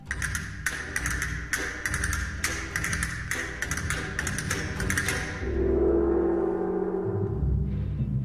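Brisk, sharp castanet clicks rattle in quick irregular bursts for several seconds, then a loud gong is struck and its deep, shimmering tone swells and hangs in the air, played as part of an orchestra's percussion section.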